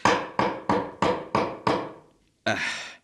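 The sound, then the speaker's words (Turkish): A nail is hammered into wood with six sharp, loud blows in a quick, steady rhythm. A brief pause follows, then one last heavier strike that rings out longer. “Şunu çakayım da.”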